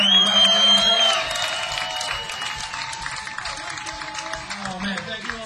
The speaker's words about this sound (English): Let's have a hand for the … now.